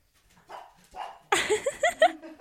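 A small dog gives a few soft, muffled whines, then breaks into a quick run of high-pitched yappy barks, each bark short and bright.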